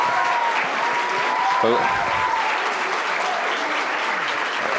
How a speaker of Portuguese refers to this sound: Entusiasmo, né? Uma torcida entusiasmada. Muito obrigado a todos, obrigado pelo aplauso.